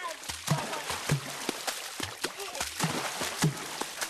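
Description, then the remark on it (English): Baka Forest People in Cameroon slap and cup river water with their hands in a steady, rhythmic water-drumming pattern, each strike giving a deep hollow thump with a splashy edge, repeating several times a second, lively. “You're hearing …. It's a recording of the Baka Forest People of Cameroon.”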